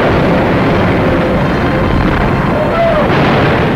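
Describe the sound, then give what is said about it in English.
Japanese warplanes with suicide pilots swooping close through terrific anti-aircraft fire: a loud, unbroken wall of roaring engine noise and rumbling gunfire bursts, dense, filling the whole few seconds without a break. “In the face of terrific anti-aircraft fire, Jap planes swooped close, their suicide pilots knowing full well that their battle is ended.”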